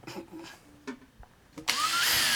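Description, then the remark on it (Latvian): A few soft knocks and clicks, then a power drill whirs up abruptly and drills holes into a base holding a logo, loudly and steadily until the end, its motor pitch rising as it runs. “Kad no tiem urbumiem tas pamats kļūs pārāk trausls un varbūt izbirst tas logo ārā, bet gan jau, ka nē.”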